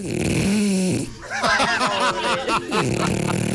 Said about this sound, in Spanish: Les envío desde Zaragoza los pequeños, pero bien audibles, ronquidos de mi perro. Se llama Boris. Es un bulldog francés.